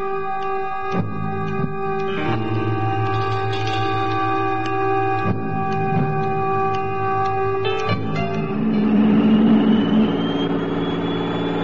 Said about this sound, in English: That's the sound of an ordinary jet, developed from the Pratt Whitney original, of course, during the last years of the war. Of course. There have been many modifications and improvements.